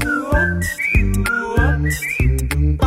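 A whistled melody with short sliding notes rides over a rhythmic musical accompaniment, bright, repeating its phrase twice in under three seconds.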